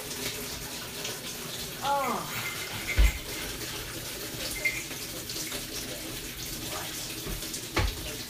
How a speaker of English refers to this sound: Right, hand washing first. Oh, goodness me. Let's let that water get a bit warm.